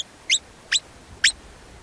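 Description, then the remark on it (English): A marmot's alarm call: sharp, piercing high whistles repeated about every half second, four short loud blasts over a faint background with no talking. “The alarm call is so piercing, it physically hurts your ears.”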